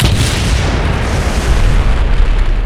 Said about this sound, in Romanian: Dăm direct o mare bombă, sare în aer, bancul.